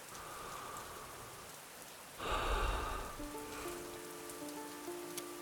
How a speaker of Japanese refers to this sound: 雨がしとしとと降っていた。